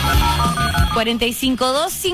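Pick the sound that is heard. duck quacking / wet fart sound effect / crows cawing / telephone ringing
telephone ringing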